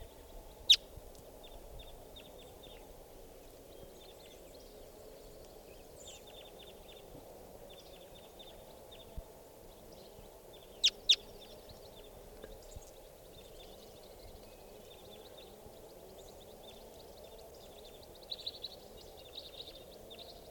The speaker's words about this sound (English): This is that female. Other wild crossbills coming in here. One other bird. And this is the female.